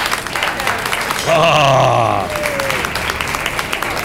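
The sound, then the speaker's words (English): A live crowd at Ted's in Beverly Hills applauding steadily, with a swell of cheering and a rising, whooping voice briefly rising above the clapping midway through. “along with a great crowd out here tonight, folks.”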